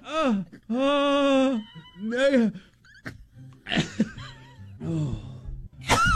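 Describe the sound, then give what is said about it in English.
A person trying to make themselves sneeze with eyes open strains through a series of drawn-out, wavering breathy vocal buildups, then lets out short, harsh bursts that sound more like a cough than a sneeze, fairly loud. “It's like a cough.”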